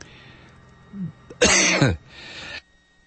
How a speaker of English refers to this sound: excuse me for coughing in your ear there